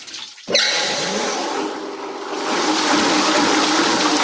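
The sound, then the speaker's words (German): Water suddenly rushes into a paper pulp machine, where dry cellulose is soaked and kneaded into pulp, after a brief quiet start, settling into a loud, steady gushing and churning roar that continues throughout, with no voices. “Da wird jetzt Wasser zugeführt.”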